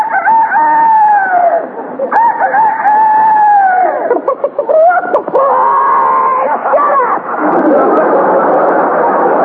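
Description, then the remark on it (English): Barnyard animals upset by the daylight saving time change, heard from a bedroom window at 5 o'clock in the morning in California: a loud, unbroken run of drawn-out calls, long rising and falling rooster crows blending into howling, squawking animal cries that sweep up and down in pitch for nearly ten seconds. “This sudden change has even upset the barnyard animals.”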